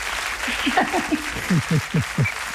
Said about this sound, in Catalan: Que bé, doncs un altre aplaudiment